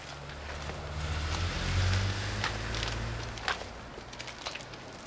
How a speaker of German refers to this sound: Wir konnten noch nicht mal sehen, mit was für einem Wagen der Blonde davon gefahren ist.